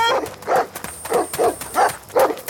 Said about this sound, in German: die Hunde kommen! Lauf schneller! Ah, Hilfe!